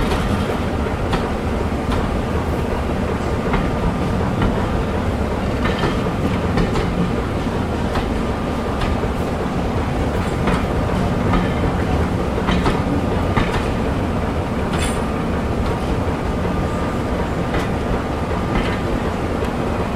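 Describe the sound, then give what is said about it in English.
Steam locomotive 60007, Sir Nigel Gresley, arrives hauling a packed train, with a steady, loud, heavy rumble, punctuated by sharp, irregular clacks of wheels over rail joints throughout, with no voices. “there we go, the steam loco has arrived.”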